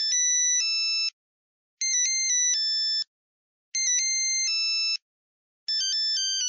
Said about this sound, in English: By 2004, Zingy was one of the biggest ringtone producers in the world. The company says it was selling 2.5 million ringtones a month. And these were basic monophonic ringtones, simple bleeps and bloops, like this.